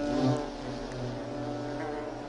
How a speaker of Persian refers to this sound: در حال حاضر کلونی آرام است، چون تمام زنبورهای اینجا ماده اند.